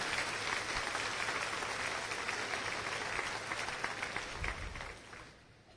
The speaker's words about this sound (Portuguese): Vamos glorificar a Deus com uma salva de palmas, porque é maravilhoso, né, irmãos?